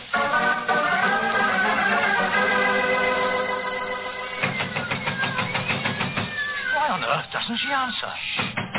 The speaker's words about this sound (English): Listen. There are cats inside our dressing room.